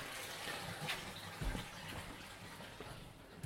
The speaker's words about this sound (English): I'm just getting some more warm water.